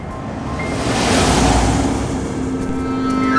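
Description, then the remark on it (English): A 1949 Mercury Coupe rumbles past, its broad whooshing engine noise swelling and fading, then settling into a steady low idle as it pulls up next to a parked car and stops. No one speaks. “A 1949 Mercury Coupe drove past us and pulled up next to Mariano's parked car.”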